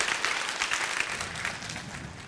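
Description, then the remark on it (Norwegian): An audience claps steadily, a dense wash of many overlapping hand claps with no clear rhythm, moderately loud and sustained throughout with no talking over it. “Ja, klapp.”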